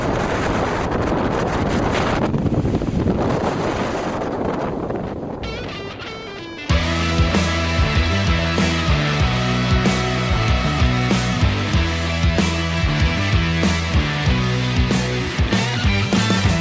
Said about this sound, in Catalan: El torb és un dels fenòmens més perillosos que ens podem trobar a la muntanya. Es produeix quan el vent fort aixeca la neu. Com més fort sigui el vent i com més neu hi hagi, sobretot si està poc consolidada, el torb encara serà més potent.